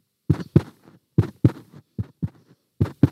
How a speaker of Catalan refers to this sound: Estava molt emocionada i el cor em va bategar.